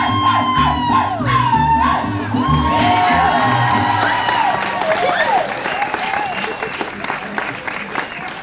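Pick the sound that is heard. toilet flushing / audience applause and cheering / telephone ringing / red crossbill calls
audience applause and cheering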